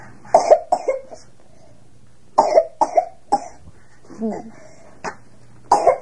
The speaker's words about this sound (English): You have a little cough.